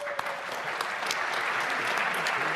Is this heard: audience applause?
yes